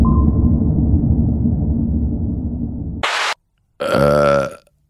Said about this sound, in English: Now, you told me this earlier in the studio, that if I do this sound, if I do a burping sound, you actually get sick.